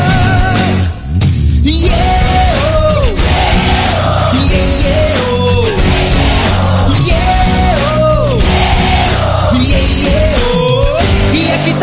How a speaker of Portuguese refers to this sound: Eu quero ouvir vocês nessa troca de energia. Vai galera, coração. Quero ouvir a multidão.